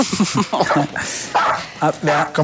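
A female dog howls and yelps in a quick series of short, wavering cries, loud, rising and falling in pitch with brief gaps between them.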